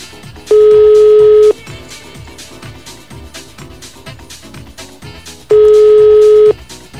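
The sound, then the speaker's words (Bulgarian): A telephone ringback tone rings twice, each a one-second steady beep with a long pause between, clear and fairly loud over a low rhythmic background, with no one picking up. “Добре, оставаме на страни, понеже не е много радиофоничен, то сигнал свободно само.”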